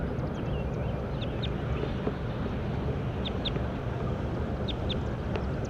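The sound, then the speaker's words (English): A recording of bird number 37 calling with short, high chirps, several in quick pairs, fairly faint over a steady, loud low rumble that fills the whole recording; no one speaks. “Recording bird 37.”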